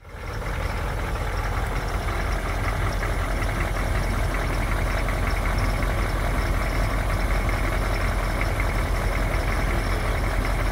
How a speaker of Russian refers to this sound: Послушайте мотор этого Кадиллака Эльдорадо 80-го года. Нехарактерно звучит.